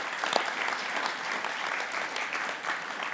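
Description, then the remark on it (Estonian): Steady audience applause at a church service, given for everyone who serves there, fills the whole stretch, a dense wash of many hands clapping at moderate loudness with no voices rising above it. “Nii et anname kõigile, kes teenivad selles kojas ühe Jumal ennistuga. Aplausid oled hästi jõunud tööd.”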